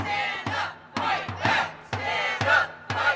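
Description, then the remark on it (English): A crowd of about 50 protesters gathered near the Atwood building chants in unison, loud rhythmic bursts of shouted syllables repeating roughly twice a second with brief gaps between phrases, heard from a couple of blocks away. “Chants from a crowd of about 50 protesters gathered near the Atwood building could be heard from a couple blocks away.”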